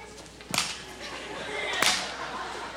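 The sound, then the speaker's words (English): Two sharp, loud hand claps, a little over a second apart, each a crisp smack that dies away quickly over a steady hiss of background noise. “Like, for instance, in 18 years, we have still not learned how to clap.”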